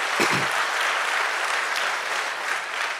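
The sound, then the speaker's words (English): Steady audience applause, a dense patter of many hands clapping at an even, moderately loud level throughout, with no voices standing out. “And thanks for clapping.”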